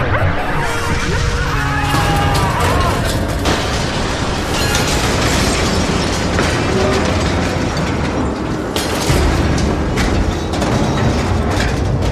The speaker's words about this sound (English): Plasma expansion wave will overtake Liberator in 10, 9, 8, whose ship? 7. Six, our ship. Five, four, that will do for now. Three. Brace yourself!